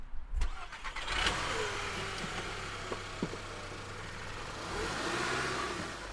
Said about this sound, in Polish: To robimy teraz zmianę. Przejedziemy samochodem w miejsce zacienione.